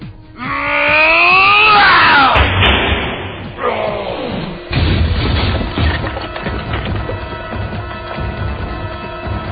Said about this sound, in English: Superman looks enraged. He's just unleashed a hit like few this reporter has ever seen, sending Metallo crashing into the apartment building, leaving a three-story high gaping hole.